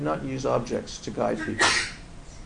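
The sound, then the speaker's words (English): A single quick sneeze bursts out near the end of a sentence, fairly loud, briefly cutting across a man's steady speaking voice. “Bless you.”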